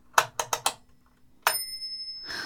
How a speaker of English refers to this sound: have a listen to this. Isn't that nice? You want to know the fun thing about metronomes? Is this one has a bell.